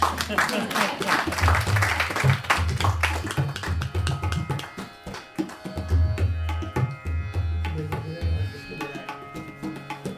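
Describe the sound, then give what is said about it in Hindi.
An audience claps loudly for a few seconds at a performance of Indian classical music in raga Gaud Malhar, a dense crackle of many hands that thins out, while deep rhythmic drum strokes and musical tones carry on underneath and take over. “मैं इनके लिए को मलार सुना रहा हूँ, सबके लिए आप सब के लिए ताली अपने लिए।”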